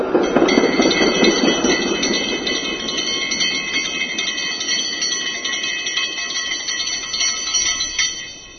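A tram rumbles steadily along the rails while its bell rings in quick repeated dings, the rolling noise loudest at first and the bright ringing continuing throughout, with no voices.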